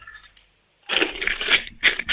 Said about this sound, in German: Hast du eine Sparbüchse? Ja. Dann lauf mal los, ich möchte die Sparbüchse hören. Schüttel die mal richtig.